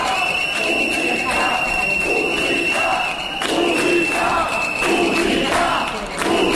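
At the ceremony opening the university year in the Community of Madrid, Spain, a loud, dense crowd of protesters from social groups and unions shouts and boos against cuts and fee rises, with a shrill, sustained whistle cutting through the roar for nearly the whole stretch and surges of yelling rising and falling.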